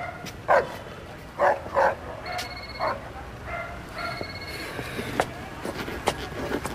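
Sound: guard dog barking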